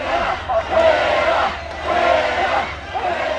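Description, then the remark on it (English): A large crowd of Bell residents at a city council meeting chants the single shouted word "fuera" ("out") in unison, rising in two loud, rhythmic swells over a steady roar of many voices. “Fuera, they chanted. Out.”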